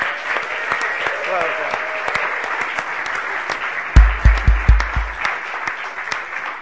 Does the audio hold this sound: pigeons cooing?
no